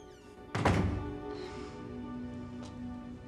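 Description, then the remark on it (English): A single solid thunk of a door being shut by a man behind a woman who has stepped outside, a heavy low impact with a brief rattle, followed by a steady low hum and a couple of faint ticks. “Then he shuts the door behind her.”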